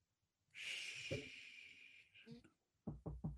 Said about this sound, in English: It's me knocking on wood. just don't try and tempt anything.